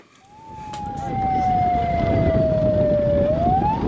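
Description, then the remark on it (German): A police car siren wails steadily, its pitch sliding slowly down and then sweeping back up, loud over a dense rumble of traffic and street noise, as the police car escorts a van carrying Afghan refugees. “Ein Polizeiauto eskortiert einen Transporter mit afghanischen Geflüchteten.”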